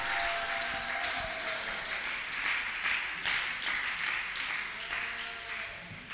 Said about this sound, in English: I think the clap should be better, the shout should be greater.